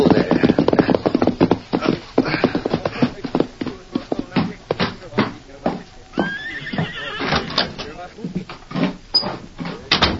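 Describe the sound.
Horse hooves clip-clop in a steady run of sharp beats that slow and scatter toward the end as a rider reins up his horse in front of the Cattleman's Bank in Blue Mesa, with a horse neighing partway through and a voice under the hoofbeats.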